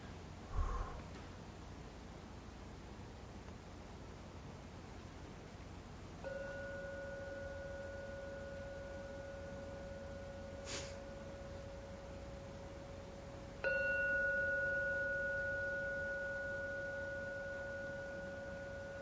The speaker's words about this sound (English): I will now ring the gong 3 times. Please listen to every sound from the gong. The last sound vanishes, then come out and open your eyes.